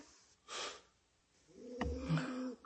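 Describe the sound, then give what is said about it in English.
A small female pet snores softly: a breathy inhale, a pause, then a snorting, rumbling exhale with a nasal whistle, quiet with no talking. “My sweet little lamb. She's snoring now.”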